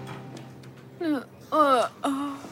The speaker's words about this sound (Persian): چرا سر صبحی داری خمیازه میکشی؟ دیشب خوب نخوابیدی؟